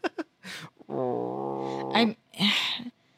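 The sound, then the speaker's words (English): A voice imitates the TARDIS purring like a very old cat when petted: a drawn-out, croaky, humming tone lasting about a second, framed by short breathy, raspy vocal bursts, fairly loud. “And except for when Rose like reaches out and pets it and it makes a purr like a very old cat.”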